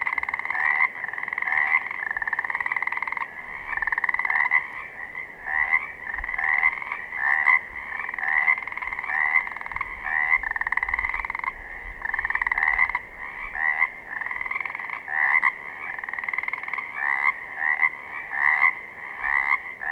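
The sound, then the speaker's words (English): A dense chorus of Pacific chorus frogs giving their spring mating calls at night, overlapping rhythmic croaks and trills that pulse steadily for the whole stretch, loud with no voices. “And a much more ubiquitous presence were the Pacific chorus frogs. When spring started, we would hear these giving out their mating calls every night.”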